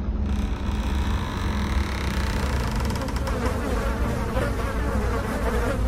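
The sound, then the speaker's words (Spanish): A thick cloud of flies pouring out as a door is opened buzzes steadily and loudly, with a continuous droning hum that never pauses across the whole stretch. No one speaks. “Cuando Leti abrió la puerta, salió una gruesa nube de moscas acompañada de un pestilente y nauseabundo olor.”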